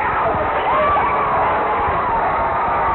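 A dense roar of cheering from a large football stadium crowd after the Tallahassee Tigers make the playoffs. It is steady and loud throughout, with overlapping shouts and whistle-like cries rising above the wash of voices.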